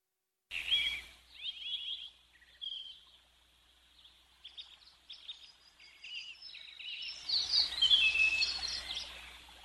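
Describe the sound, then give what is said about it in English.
Birds sing and chirp in a busy outdoor chorus, bright trills and tweets overlapping throughout, swelling louder toward the end with a soft low rumble underneath. “There are the birds, and here is Howard following the birds back in.”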